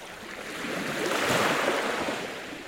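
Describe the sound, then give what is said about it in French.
A single ocean wave washes up and draws back over the shore, a broad hissing rush that swells in the middle and slowly fades, with no voices. “Et c'est pour ça que j'avais choisi ce début qui illustre tout à fait ce mouvement de ressac.”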